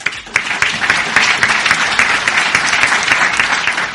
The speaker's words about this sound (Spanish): Con un prolongado aplauso, el clero de Albacete despedía a su obispo, don Ángel.